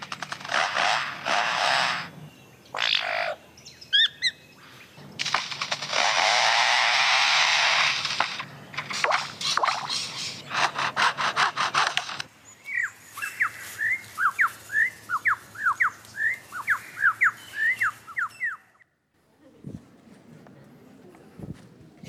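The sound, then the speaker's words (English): A bird mimics the chainsaws of foresters at work with loud, harsh revving bursts that rise and cut out several times, then shifts to a quick series of sharp, repeated chirps before falling quiet. “And now the sounds of foresters and their chainsaws working nearby.”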